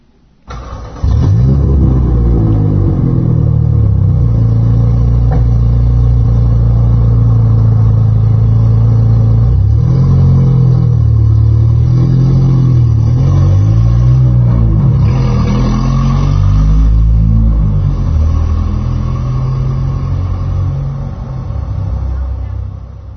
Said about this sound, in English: It's a marvelous place to listen to music or trucks passing. So let's go find the truck and see what it sounds like.